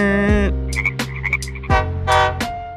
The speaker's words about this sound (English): Frog noise, frog noise.